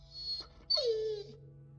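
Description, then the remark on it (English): A red setter puppy named Pat whimpers while being cuddled by its bedbound owner: a thin, high whine, then a longer cry that slides downward and fades, quiet and alone with no talking. “And for the last few months of their marriage, being drugged up and drunk, crying and catatonic, she lay there, bedbound and broken, cuddling Pat, her red setter puppy.”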